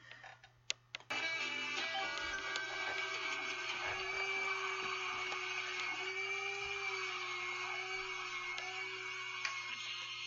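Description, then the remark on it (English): A couple of sharp clicks, then a vacuum cleaner hose roars on and runs steadily as it cleans between the cushions of a couch, its whining motor tone wavering slightly as it works, with no talking. “vacuuming with the hose. Looks like she's getting between the cushions of the couch.”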